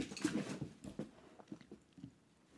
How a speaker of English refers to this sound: My dog just jumped on me.